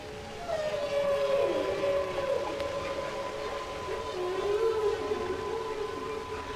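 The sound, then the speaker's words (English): A whale call from Henry the Hudson Whale: long, wavering moans that glide slowly up and down in pitch, sustained throughout at a steady, fairly loud level with no voices. “We are now joined by our friend Henry, the Hudson Whale.”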